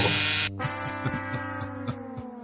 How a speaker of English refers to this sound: Oh, no. We end with a buzzer.